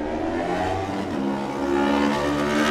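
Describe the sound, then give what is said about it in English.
Dominic Herbertson's Melbray Racing motorcycle engine revs hard and climbs in pitch as he pulls away from the line on the TT course in a superstock race, a loud, steady whine that rises slightly toward the end, with no voices. “He's away on the Melbray Racing pattern.”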